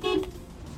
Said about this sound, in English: Look, I'm going to beep my horn. Can you hear it with the window shut?